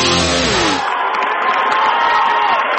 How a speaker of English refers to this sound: They've got a really good crowd here, and they're getting fired up. Well, they need to be.